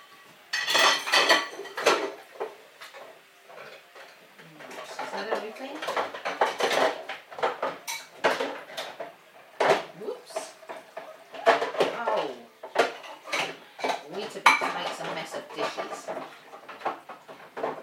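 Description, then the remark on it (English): Dishes and cutlery being loaded into a dishwasher: a steady run of sharp clinks, clatters and scrapes, irregular and fairly loud, continuing throughout with brief pauses between bursts. “This dishwasher is going to go on in a minute.”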